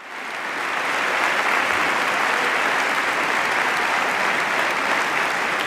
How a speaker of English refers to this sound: And this got one of the more rousing applauses of the day.